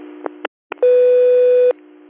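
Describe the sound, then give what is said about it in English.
Radio dispatch alert tone for a hazmat unit: a single loud, steady electronic beep held for nearly a second, preceded by short crackly bursts of radio static and a brief gap of silence. “Hazmat, disregard your tones.”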